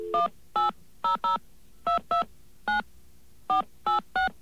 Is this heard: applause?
no